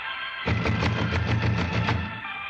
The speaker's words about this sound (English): Someone is purposely not answering. Knock again, Holmes.